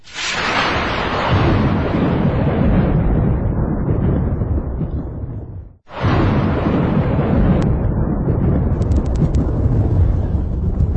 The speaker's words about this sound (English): Somehow thunder works well in the night.